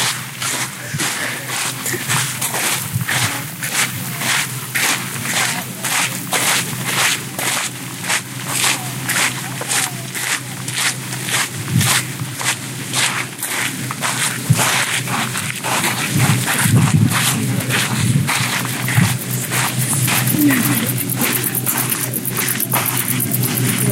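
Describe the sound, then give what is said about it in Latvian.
A combine harvester drives past on a road during a pilgrimage in Latvia: a steady low engine rumble under a fast, regular mechanical clatter that keeps an even rhythm and fairly constant loudness throughout. “Brīdī arī tev garām, dārgo klausītāji, brauc kombains.”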